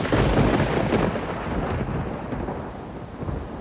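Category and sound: nature, thunder and heavy rain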